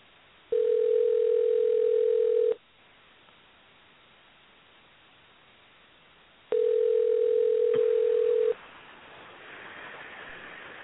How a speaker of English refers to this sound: So, Sandbridge is a pretty much small pier. It's, you know, it's out of the way. We'll see if anyone's home in the shack to answer the phone.